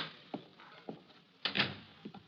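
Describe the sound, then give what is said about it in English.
The door of a rear bedroom in a boarding house in a large western city opens with a few wooden knocks and creaks, then a louder scraping rattle in the middle. “An attractive, dark-haired girl is putting on her makeup as the door opens.”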